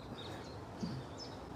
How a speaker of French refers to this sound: Et on entend les oiseaux. Mm. Parce qu'il y a même un pic ici qui promène de temps en temps.